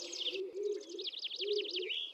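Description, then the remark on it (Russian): A stock dove, a wild forest pigeon, coos in low, soft, rolling phrases, two calls in a row, in an old oak forest, while a smaller bird trills a high, rapid warbling song over it. “Ведь это он, кажется, так воркует.”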